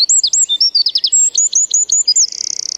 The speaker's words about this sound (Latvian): Paceplīšu dziesma ir skaļa un ritmiska, apmēram divreiz ilgāka nekā žubītei un sastāv no skanīgām atkārtotām zilbēm. To starpā ir arī ļoti ātrs šai sugai raksturīgs tārkšķis.